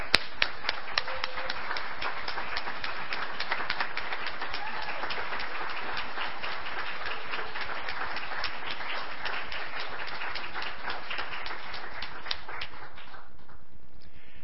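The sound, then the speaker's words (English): The standing audience of the Lake Country Unitarian Universalist Church claps steadily for over ten seconds after the announcement that a minister will be called. A dense wash of many overlapping hand claps at a fairly even level, thinning out and fading near the end with no voices. “Let us stand and clap and rejoice.”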